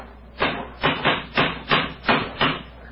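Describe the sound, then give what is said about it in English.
A cane knocks hard against a stone bridge parapet, about seven sharp, dull raps in a steady, fairly quick rhythm, each clear and solid with no voices. “Yes. It's a hard knock.”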